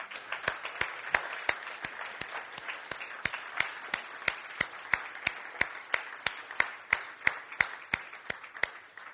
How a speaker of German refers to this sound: Und ich hätte gedacht, dass wir auch all unseren Mitarbeitern einfach mal einen Applaus geben, oder?